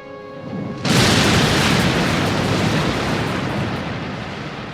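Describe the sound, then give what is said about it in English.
A faint humming tone gives way to a sudden, massive explosion that shatters garage windows and shakes the whole house, followed by a loud, dense roar and rumble that sustains for several seconds and only slowly begins to fade. “We're all knocked off our feet as the garage windows shatter and the whole house shakes.”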